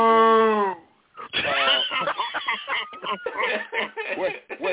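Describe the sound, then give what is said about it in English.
A single short, low cow moo sounds at the start, then quickly gives way to voices talking and chuckling. “Was that a cow that we had inside the...”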